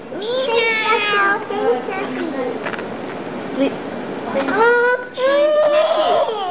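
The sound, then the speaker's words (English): A person imitates a cat, drawing out several wavering, high-pitched meows in a row, fairly loud, with strong harmonic sweeps rising and falling. “Meow. I'm a cat.”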